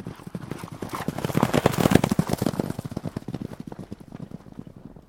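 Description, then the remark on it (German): A white horse gallops down the driveway of a riding stable and onto a field path, its hooves a fast, steady drumming of sharp clip-clop beats that swell louder midway, then ease off slightly while continuing to the end. “Der Schimmel preschte die Auffahrt zum Reiterhof hinab und dann auf einen Feldweg.”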